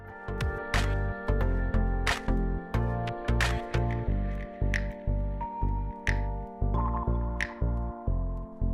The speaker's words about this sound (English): Just to illustrate the issue, this is how quickly toilet paper breaks down when agitated in a mixer. And this is a wet wipe labeled flushable.